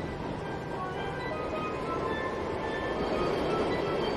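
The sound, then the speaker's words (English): A steady, loud rumble of a train into the city rolling along its rails, with a continuous low roar and faint high whining tones drifting over it, no voices, constant throughout. “I walk to the station every morning, take the train into the city.”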